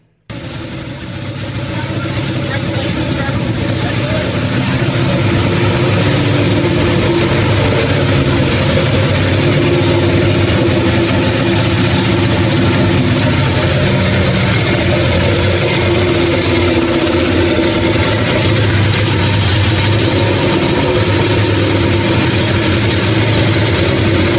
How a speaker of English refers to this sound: You gotta understand that car idles at, I don't know, that was 1,000 RPMs, 1,100 RPMs.